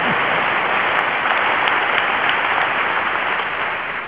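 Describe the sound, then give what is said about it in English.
Steady, dense applause from an audience during a speech about the United Nations and its peacekeeping, a loud continuous wash of many hands clapping that holds for about four seconds and eases slightly at the end, with no voices over it. “Fifth, you may clap for that, I'd be honored.”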